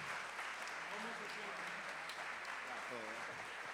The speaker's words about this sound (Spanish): Dale un aplauso a Dios.